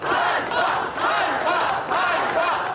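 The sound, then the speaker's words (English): A large protest crowd in Ukraine chants "shame" in unison against President Volodymyr Zelensky's firing of his defense minister, a repeated short shout rising and falling in a steady rhythm about every half second to second, loud and dense with many voices blending together. “The crowds chanted shame in a rare public challenge of Zelensky's leadership.”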